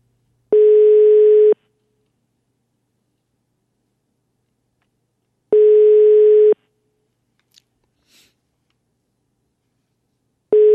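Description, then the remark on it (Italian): A telephone busy tone sounds through the line after a caller from Bergamo hangs up: steady, mid-pitched beeps about a second long, repeating slowly with long silent gaps between them, and no one speaking. “Non è che questo può buttare giù il telefono così, Non si può permettere.”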